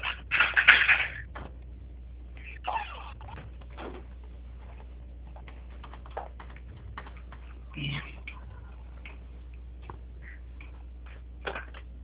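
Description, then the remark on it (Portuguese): Scattered clicks, taps and rustles of someone rummaging through objects searching for a pen, with a louder clattering burst at the start and irregular small knocks throughout. “Peraí, que é toda vez que eu procuro uma caneta, elas se escondem.”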